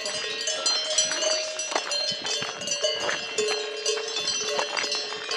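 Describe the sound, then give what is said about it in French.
Many cowbells clank and jangle together in a dense, continuous racket, their metallic tones overlapping irregularly as a herd of cows wearing bells moves about on a hiking trail toward the Lac des Rousses; fairly loud and steady throughout, with no voices. “Alors sur notre chemin de randonnée, nous avons croisé surtout, ce qui a beaucoup plu aux filles, un beau troupeau de vaches avec des cloches, ça fait beaucoup de bruit.”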